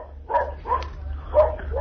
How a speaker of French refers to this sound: est-ce que vous pouvez vous déplacer le temps que ce chien-là ne puisse plus aboyer?